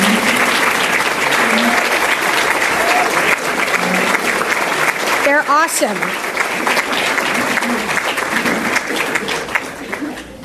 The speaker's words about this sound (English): So for those of you guys who never get the credit but make me look good, please stand up right now. And I'd like you, the crowd, to please give them a round of applause. Stand up, guys.